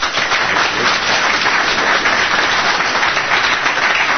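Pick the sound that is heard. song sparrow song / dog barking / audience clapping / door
audience clapping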